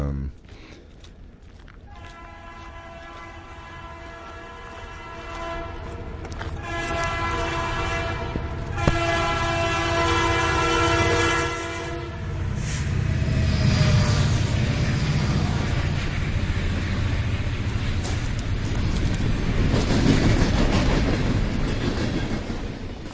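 A freight train's horn sounds in long sustained blasts, then the loud rolling rumble and rhythmic clatter of rail cars passing carries on steadily to the end.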